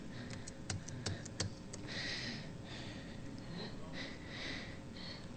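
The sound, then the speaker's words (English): A quick run of about seven soft clicks from typing on a computer keyboard, fairly quiet, followed by a few breathy sniffs over a low room hum. “My keyboard is.”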